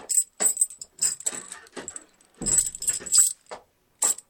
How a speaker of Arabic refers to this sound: أقفل عليه الباب ولا تدع أحدا يدخل عليه.